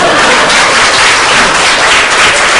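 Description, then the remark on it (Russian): Steady, dense applause from an audience, many hands clapping at once in a loud continuous wash of noise with no pauses or speech over it. “Это аплодисменты вам.”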